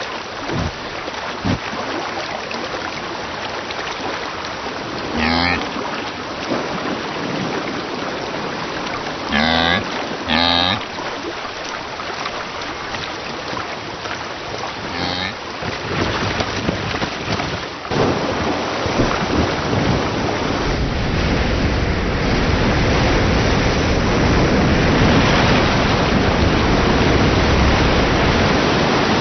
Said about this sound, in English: Yellowstone River has increased its flow tenfold.